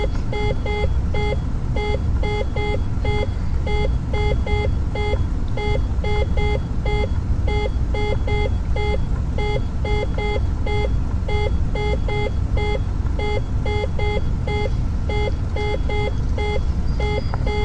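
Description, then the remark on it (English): A steady, rapid series of electronic cockpit speed-warning beeps repeats in short bursts throughout, loud, over a constant low aircraft engine rumble and roar, with no talking; the warning keeps sounding until the speed gets to 85. “That's gonna beep like that till it gets to 85.”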